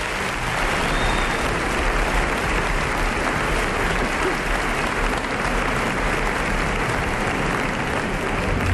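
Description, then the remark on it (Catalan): A crowd applauds steadily for several seconds for a person invited up on stage, a dense, even wash of many hands clapping at a constant loud level with no voices standing out. “Fem-li un fort aplaudiment”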